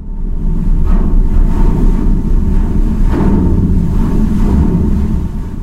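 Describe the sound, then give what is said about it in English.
Ice grinds against the bow of the Odin, a Swedish icebreaker that rides up onto Arctic ice floes and cracks them with its weight. There is a heavy, continuous low rumble, broken by a few sharper crunching surges about a second apart, with no voices. “You'll hear the sound of ice meeting the Odin's bow, again, as long as there is ice there.”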